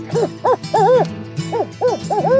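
A barred owl's hooting call rings out loud, a rhythmic run of rising-and-falling hoots in two quick bursts with a brief pause between them.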